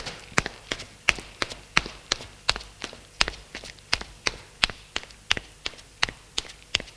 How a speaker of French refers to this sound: Et elle sort de la pièce. Elle descend les escaliers.